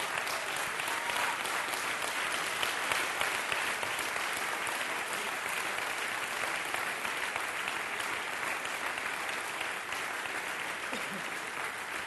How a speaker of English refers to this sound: Lay your Bible down and give the Lord a big hand clap in the house.